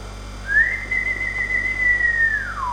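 A silver whistle is blown once in a single long, steady high note lasting about two seconds, clear, sliding slightly downward as it fades out. No one speaks.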